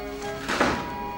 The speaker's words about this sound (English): Bridget hears the sound of the door closing.